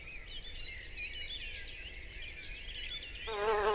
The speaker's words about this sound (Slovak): Opäť tu máme včelu. Môžeme ju chytiť zase na pravej strane.